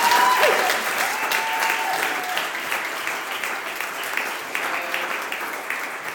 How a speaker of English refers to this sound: And I would like everybody to give a round of applause